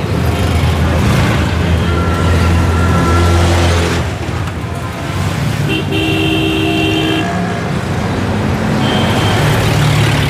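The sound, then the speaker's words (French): Dense road traffic jam in Delhi with cars and buses idling and rumbling, punctuated by repeated car horn toots from several vehicles, some loud, others quieter, in a continuous congested din. “On a fait au moins 1h30 de voiture dans les embouteillages à travers Delhi.”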